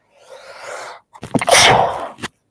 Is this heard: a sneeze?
yes